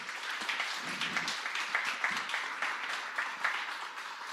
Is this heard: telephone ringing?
no